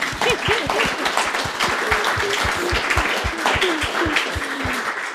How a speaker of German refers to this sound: Ich würde ganz gerne, ganz gerne klatschen.